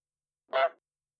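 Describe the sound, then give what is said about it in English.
One loud goose honk outside a window in the middle of the night, short and nasal with a buzzy, harmonic tone, sounding alone against silence before and after. “Sam was awoken in the middle of the night by a loud honk outside his window.”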